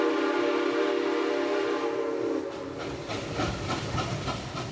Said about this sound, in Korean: 네, 들리는 것처럼 기차가 개통됐군요. 네, 당시 미국 최대의 철도업자인 벤더빌트라는 사람이 석유 운송 사업을 장악하기 위해서 클리블랜드까지 진출을 한 겁니다.